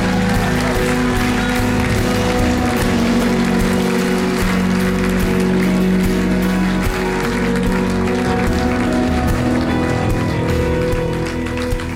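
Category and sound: crowd, crowd cheering and applauding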